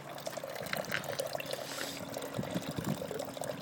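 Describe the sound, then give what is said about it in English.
Steady trickling and splashing of water from a resin garden water feature, continuous, with small bubbling drips over a constant flowing wash and no voices. “That's our water feature.”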